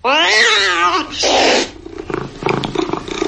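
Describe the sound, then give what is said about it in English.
A cat lets out a loud, drawn-out meow with a wavering pitch, followed by a shorter, harsher yowl. A voice then starts talking. “Wayfair can't stop your cat from taking the best seat in the house.”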